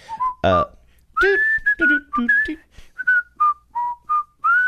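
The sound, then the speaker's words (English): Someone whistles the jaunty theme tune of The Andy Griffith Show, a steady run of clear, bright notes with short gaps between phrases, after a brief burst of other sound at the very start. “One you would most definitely whistle along to.”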